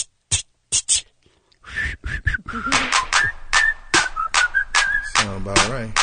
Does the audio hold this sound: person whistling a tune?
yes